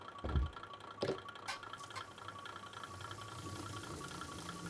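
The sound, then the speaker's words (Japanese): A KiHa diesel railcar's engine idles, left running while the railcar's exterior is cleaned with a mop. It makes a steady, low droning rumble and faint tonal hum, punctuated by a few sharp mechanical clunks in the first two seconds; no one speaks. “この子、キハ5人の外観清掃今からするの。エンジンかけっぱでモップがけでしょ。”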